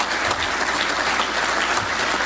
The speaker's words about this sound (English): Hey, do me a favor. Keep clapping for Kevin Warren.